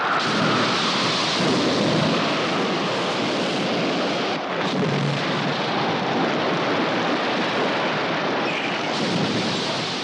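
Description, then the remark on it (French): A loud, steady night storm at sea around the ship Patna roars throughout, with dense rain hiss and deep rumbles of thunder rolling underneath, unbroken for the whole stretch with no voices. “Une nuit de tempête, un choc, fait craindre au capitaine qu'une voie d'eau ne soit ouverte sous la coque.”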